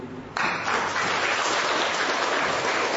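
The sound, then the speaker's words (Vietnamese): Loud hand clapping at a prayer gathering bursts in after a brief quiet moment and continues as a dense, steady wash of many claps, with no pause until the end. “Rồi ông vừa vỗ tay to đó, ông lên đấy, lên đấy.”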